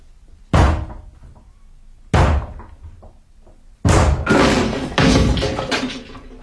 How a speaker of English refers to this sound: I'm going to break the door down, or rather we are.